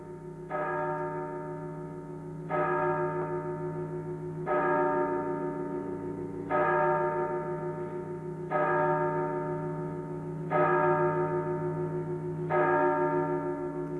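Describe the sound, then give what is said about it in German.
A tower clock bell near a huge empty square strikes twelve with slow, evenly spaced, resonant tolls about two seconds apart, each ringing on until the next stroke, loud and clear with no voices. “In der Nähe begann eine Turmuhr 12 zu schlagen.”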